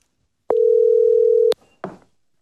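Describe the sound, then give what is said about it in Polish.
A telephone gives one steady electronic tone lasting about a second, clear, followed by a brief soft clatter like a receiver being picked up, as Venezuelan opposition leader Maria Corina Machado takes an important call a few minutes before 11 a.m. Central European time. No one speaks. “Wtedy właśnie liderka wenezuelskiego obozu demokratycznego, opozycjonistka, odebrała bardzo ważny telefon.”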